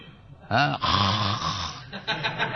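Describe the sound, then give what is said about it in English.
A voice imitates people snoring while meditating with a loud, rasping snort followed by a long, rattling breath, then a few shorter wheezy puffs, prominent with no other sounds. “They close their eyes, and I do not know what they are meditating, but I have seen they are snoring.”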